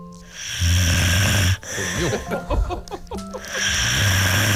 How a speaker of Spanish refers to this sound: Las chicas también roncan, ¿eh?